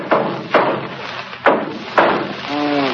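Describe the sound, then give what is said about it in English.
Four loud hammer blows bang against an engine at an uneven pace, each a sharp thud with a short ring-out, followed by a brief vocal sound at the end. “Let me try something else here with this hammer.”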